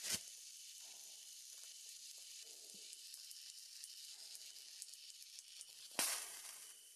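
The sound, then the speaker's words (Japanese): A steady, bright crackling sizzle like a burning sparkler, full of tiny scattered pops, starting abruptly and swelling into a louder hissing burst near the end. No one speaks. “綺麗ですね。パチパチって。”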